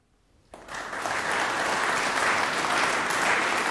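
After a half second of near silence, a concert audience bursts into applause that swells quickly and holds as a steady, dense roar of clapping hands with no voices, at a concert of Jewish music played on instruments of persecuted Jews in a synagogue in Germany.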